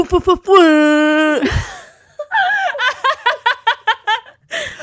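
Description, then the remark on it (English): A voice imitates an air horn with a single loud, steady, brassy blare held for about a second, followed by a run of rhythmic, choppy laughter. “Oh my gosh, your air horn sound is so good.”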